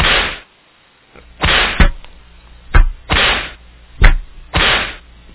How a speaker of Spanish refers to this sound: Y me han traído aquí otra para que le dé más latigazo.